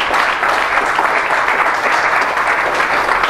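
A large crowd claps steadily in applause for the Lord during a sermon, a dense, continuous wash of applause that fills the whole stretch at a fairly loud, even level with no voices standing out.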